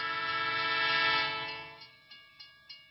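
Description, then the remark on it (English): A tram's horn blares in a long, swelling tone that fades after a second or so, followed by steady, evenly spaced clacks of wheels rolling over rail joints, as a tram comes along the Gran Via in Barcelona one evening in 1926. “I was thinking of my work, and I didn't see a tram coming towards me.”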